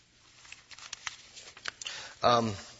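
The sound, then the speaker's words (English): Paper notes being shuffled: a quick run of crisp rustles and flicks, moderately loud, before a voice briefly starts speaking at the end. “My notes are all shuffled now.”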